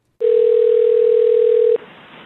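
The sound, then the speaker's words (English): A single steady telephone tone on a recorded phone call made last year to reserve a table: one low-pitched unbroken beep lasting about a second and a half, then it cuts off into faint line hiss. No one speaks. “Just to start us off, if you don't mind, I'd like you to listen to a very mundane sounding phone call that took place just last year.”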